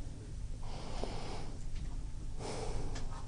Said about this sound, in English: Okay, so... This is interesting. Breathing exercises on radio. I think that's a first.